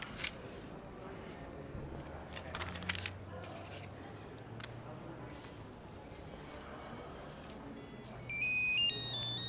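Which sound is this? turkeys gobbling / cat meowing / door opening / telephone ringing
telephone ringing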